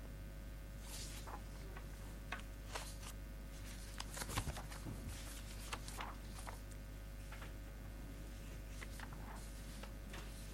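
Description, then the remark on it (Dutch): Soft papery rustles and crisp flicks as pages of a document are turned back to another page, several quick bursts with one louder flurry midway, against a low steady background hum with no one talking. “Ja, ik loop nu even weer terug naar een andere bladzijde.”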